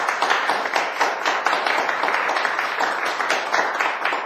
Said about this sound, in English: and I think the whole class should give you a round of applause.